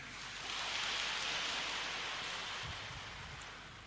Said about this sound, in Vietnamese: Để thêm một lần nữa tán dương việc đó, chúng tôi xin mời quý vị cho một tràng pháo tay.